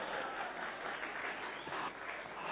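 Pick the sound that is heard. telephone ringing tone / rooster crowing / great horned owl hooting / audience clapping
audience clapping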